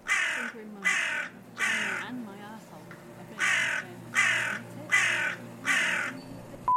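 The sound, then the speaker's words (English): A crow kept indoors in a room caws loudly, about seven harsh, evenly spaced calls with a brief pause midway, while a faint voice murmurs underneath. “Do you not have another room for the crow to go in?”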